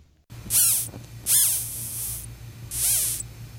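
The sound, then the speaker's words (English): A walnut sphinx caterpillar whistles by blowing air out of the final pair of spiracles on its abdomen: three short, high, hissy whistles with sweeping pitch, spaced unevenly over a steady low hum. “Caterpillars breathe through the holes in their abdomen, but it's the final pair of spiracles that make a whistling sound that's audible to birds and humans.”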